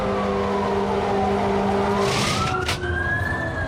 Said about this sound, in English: A view through the windshield shows the truck turning into the parking lot of a convenience store.